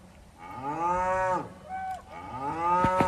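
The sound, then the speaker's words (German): Cattle moo repeatedly outside a parked bus at a camping spot in Scotland, two long low drawn-out calls followed by a shorter one and a final rising moo, loud and clear with no talking. “Tierischer Besuch am Auto.”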